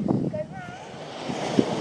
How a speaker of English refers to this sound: Seagulls. Apart from that, crashing waves. I wish you were here.